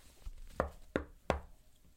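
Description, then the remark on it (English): Three sharp knocks on a door, evenly spaced at a steady rhythm, clear against a quiet background with no one speaking. “knocked but didn't come in.”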